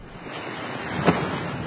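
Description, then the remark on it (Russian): Water splashes and rushes steadily in a fountain on a quiet night, a continuous broad hiss with a single brief burst partway through. Nobody speaks. “А ночь тихая, слышался только шум воды в фонтане.”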